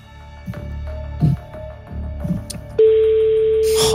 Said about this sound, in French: Allez, faites-moi sonner le téléphone, s'il vous plaît. Impression. C'est stressant ces jeux. Hein. Ça sonne, ça sonne.